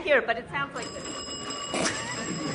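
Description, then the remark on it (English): A person speaks briefly, then a voice imitates a telephone ringing with a sustained, steady, high-pitched trilling tone that carries on at moderate loudness to the end. “The phone is ringing.”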